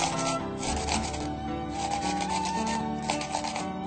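Steady, continuous rasping as food is grated back and forth across a coarse bamboo grater, not a metal one, fairly loud, with a rhythmic scraping texture and no talking.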